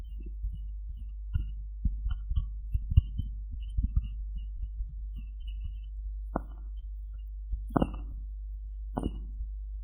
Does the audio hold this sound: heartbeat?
yes